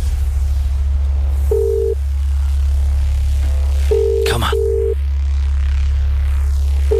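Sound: phone call ringing tone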